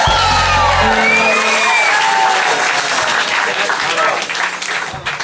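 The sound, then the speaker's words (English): A crowd at a Christmas show applauds and cheers loudly, steady clapping mixed with whoops and scattered shouts that stay dense for several seconds before thinning slightly at the end. “Another round of applause for the band.”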